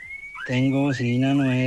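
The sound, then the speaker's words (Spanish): A loud new car horn sounds in one long sustained blast with a buzzy, wavering tone that dips briefly twice, preceded by a short high whistling tone. “Tengo bocina nueva.”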